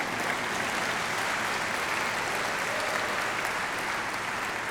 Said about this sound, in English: Yeah, thank you. Whoever you are clapping over there. Join this person, would you, please?